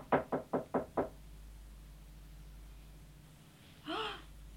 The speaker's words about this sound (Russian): Он тихо постучал.